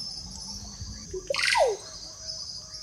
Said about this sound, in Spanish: También estamos escuchando la orupéntula o mochilero, está muy cerca. Escuchamos también los siriris.